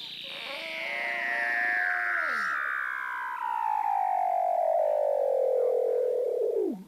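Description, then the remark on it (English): Weddell seal calls heard through the ice in Antarctica: a long, eerie, loud whistle that glides steadily downward from high to low pitch over several seconds, overlapping a shorter descending trill early on, with no talking. “you have Weddell seals swimming around in Antarctica, and you can hear them through the ice, and they have these sort of incredible sort of Star Wars robot / spaceship calls that are amazing.”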